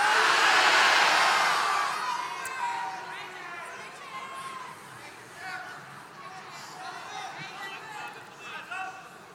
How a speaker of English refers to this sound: Here across all the campuses, on the count of three. Hang on. On the count of three, you can shout out your team. Ready? One, two, three.